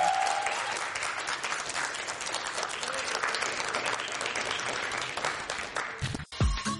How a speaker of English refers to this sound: Round of applause for Deion Lewis.